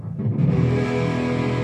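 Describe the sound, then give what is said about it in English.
A thick, heavily fuzzed electric guitar note played through a Big Muff fuzz pedal rings out loud, swelling quickly and then sustaining with a dense, buzzing wall of harmonics, with no talking. “This is the Big Muff. Designed in, I think, 1971, maybe earlier.”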